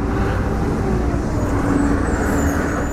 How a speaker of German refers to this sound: Der Südosten von Texas ist eigentlich eine ruhige Gegend. Weites, offenes Land, viele Rinder, wenig Menschen. Doch seit kurzem donnern pausenlos schwere Tanklastwagen durch verschlafene Städtchen wie Yoakum, Gonzales oder Cuero.